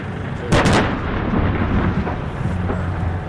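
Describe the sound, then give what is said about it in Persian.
Israeli artillery shelling in the central and southern Gaza Strip: a sharp, loud blast about half a second in, followed by a heavy rolling rumble that lingers over a steady low roar, with fainter thuds later. No one speaks. “اسرائیل از گسترش حملات هوایی و توپخانه خود به مرکز و جنوب نوار غزه خبر می‌دهد.”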